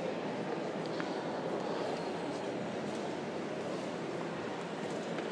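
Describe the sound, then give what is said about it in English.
A steam train locomotive gives off a steady, continuous rumbling hiss at an even loudness for a few seconds, with no distinct chuffs or whistle and no one talking. “the only one who's going to appreciate steam trains, to be fair.”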